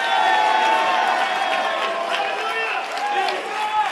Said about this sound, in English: Give the Lord a mighty hand clap. Give the Lord a great shout of praise.